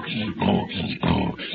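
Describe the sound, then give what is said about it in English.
A woman, a man's wife, snoring loudly: two harsh, rattling snorts with quieter, raspy breaths in between, a steady rhythm of inhale and exhale. There is no talking. “Yeah, the way that woman snores.”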